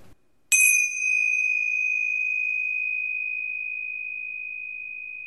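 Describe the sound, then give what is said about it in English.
A single chime is struck once, ringing out clear and bright, then sustains a long, pure tone that fades very slowly over several seconds in quiet surroundings. “The ringing of the chime was letting the intuitive energy flow in through the third eye, into your mind, into your body, and now into your reality.”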